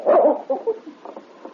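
animal, dog barking

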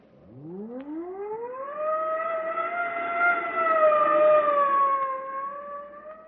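vehicle, police car siren wailing

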